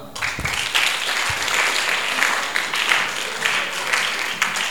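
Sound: audience clapping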